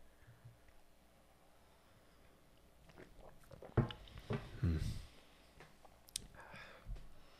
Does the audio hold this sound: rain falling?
no